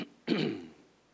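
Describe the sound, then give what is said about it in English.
A single abrupt, harsh throat clearing, caused by bits of donut in the throat, bursts out loudly and trails off into a rough, fading rasp, with no talking. “Forgive me of the coughing.”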